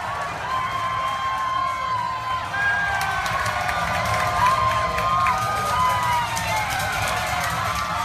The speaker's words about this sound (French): Et tout à l'heure, du côté de Times Square, c'était des cris de joie.